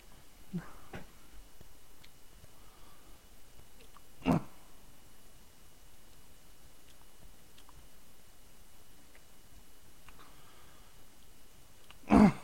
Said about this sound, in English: Sorry about that. I just really need to clear my throat after taking my meds earlier.